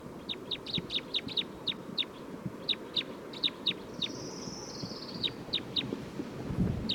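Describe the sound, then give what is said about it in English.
A bird call from bird number 311 being recorded repeats as quick, sharp high chirps in short bursts throughout, clear against a steady low rumble of background noise, with a faint thin whistle partway through. “It's recording bird 311 again.”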